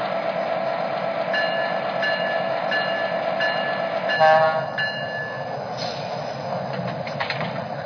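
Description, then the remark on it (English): A New Haven line commuter train, number 1533, rumbles steadily on track 1 at the South Norwalk station platform, with thin, high-pitched squealing tones drifting over the low drone and a brief sharper whine midway. No voices are heard. “Haven on track 1. Train number 1533, the New Haven line.”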